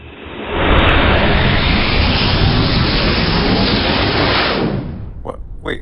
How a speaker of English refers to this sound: The bots are escaping, Captain. They fired up their engines and are flying away.